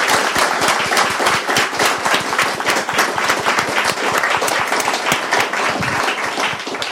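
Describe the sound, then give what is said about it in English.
A crowd applauds loudly and steadily, many hands clapping in a dense, continuous patter that holds at an even level for several seconds without voices. “Can we give her a huge round of applause?”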